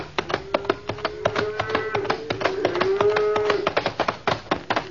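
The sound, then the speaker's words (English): A long, drawn-out low from a herd of cattle holds steady for several seconds, set against a busy stream of sharp clattering taps and knocks. “Well, Red Rider, lucky you can shoot the way you do, or Bud and my herd would have been blown to kingdom come.”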